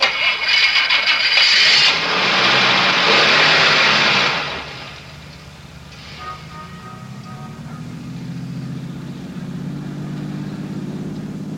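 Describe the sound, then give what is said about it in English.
A car engine starts with a burst of loud, rough mechanical noise, then settles into a steady low rumble that slowly climbs in pitch as it keeps running. “Start your car. Head west to the highway and keep going till I tell you to stop.”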